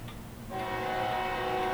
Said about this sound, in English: And June the 15th comes around, and the train is coming down the tracks towards them. Can you hear it? Do you hear the train?